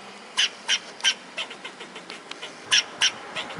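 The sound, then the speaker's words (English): A fox squirrel gives alarm barks in a quick, steady series of sharp, raspy calls, some louder and some softer, over a quiet outdoor background with no talking. “And that means learning the other voices in the ecosystem, too. Like the fox squirrel's barks.”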